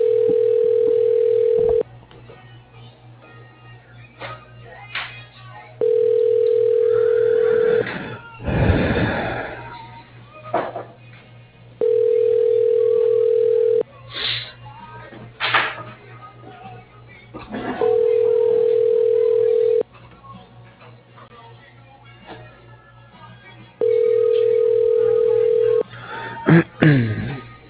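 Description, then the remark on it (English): A telephone ringback tone, heard after dialing an extension through an automated company phone directory, repeats five times, each steady, mid-pitched buzz lasting about two seconds with roughly four-second pauses, thin and narrowband like a phone line, with faint rustling noises in the gaps. “Dialing.”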